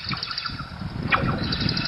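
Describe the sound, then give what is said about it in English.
A dense, unbroken chorus of cicada-like sound made by a machine in River Valley, western Pennsylvania: rapid high-pitched pulsing trills layered over a low rumbling bed, with one brief sharper chirp near the middle and steady loudness throughout. “Sort of like cicadas on acid.”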